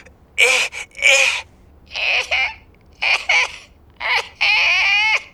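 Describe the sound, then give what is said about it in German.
A voice imitates Coco the parrot coughing: a series of about five harsh, raspy bursts with a high, squawky tone, spaced irregularly, the last one stretched into a longer strained rasp. “Coco hustet? Ja, doch, er hustet. Er macht so.”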